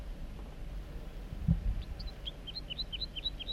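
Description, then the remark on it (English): A wild male bird sings from the top of a big dead snag on a hilltop, a quick run of about ten short, high whistled notes in a steady rhythm, rising in and out over a low, rumbling outdoor background. “Song of the wild male.”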